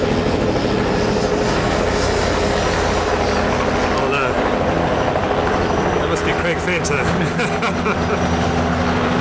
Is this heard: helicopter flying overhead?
yes